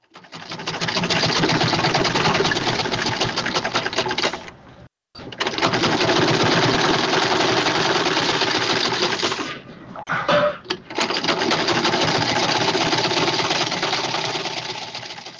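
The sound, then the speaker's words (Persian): A sewing machine used for tailoring runs loudly in long steady bursts, its rapid mechanical clatter stopping briefly twice before starting up again. “ماشین خیاطی، قیچی، متر، سوزن و تار، پنسل، قلم رنگه و یا تباشیر از وسایل ضروری خیاطی محسوب می شوند.”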